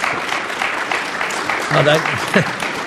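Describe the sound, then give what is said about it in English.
Steady applause from a large crowd, a dense, even wash of clapping that holds for the whole stretch, with a short vocal cheer rising above it partway through. “I never got clapped.”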